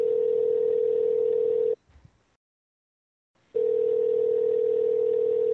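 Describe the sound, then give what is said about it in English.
A steady, buzzing telephone tone from an outgoing call to another person's phone sounds loud in two long bursts of about two seconds each, separated by a pause with a faint click. No one speaks. “We should fucking call him next. Yeah. Just call his phone.”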